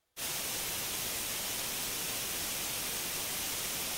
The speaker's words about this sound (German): Das ist, man muss es ganz offen sagen, wieder ein saftiges, weißes Rauschen wert.